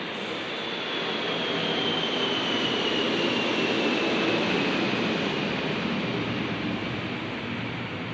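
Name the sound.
airplane passing overhead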